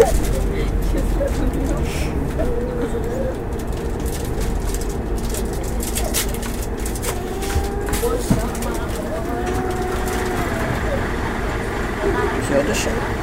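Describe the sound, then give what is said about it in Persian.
Steady low rumble of a moving vehicle heard from inside the cabin, with continuous road and engine drone, faint traffic sounds and a few soft clicks throughout. “بچه ها تکون ماشین رو احساس کنید.”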